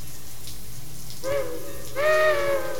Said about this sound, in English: Yeah, at any rate, it rains a lot here. You know, Portland, it's a weird place.